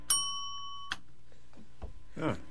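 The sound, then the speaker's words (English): A single bright quiz-bell ding rings out and holds for nearly a second before cutting off, followed by a few faint clicks and a soft rustle. “Yes, give yourself a bell.”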